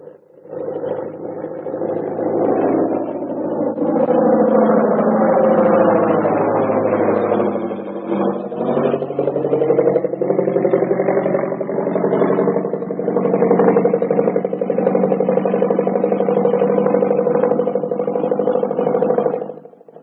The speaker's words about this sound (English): Here comes the plane. We'd better stand where we can get a full view of everybody getting off.